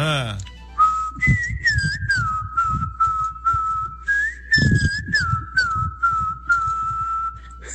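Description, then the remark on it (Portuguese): A person whistles a birdlike melody imitating a rufous-bellied thrush (sabiá-laranjeira), with sliding, warbling phrases that rise and dip in pitch, repeated in two clear runs over faint background noise. “Já que você não liberou o meu áudio imitando o Silvio Santos, eu vou imitar... A sabiá laranjeira.”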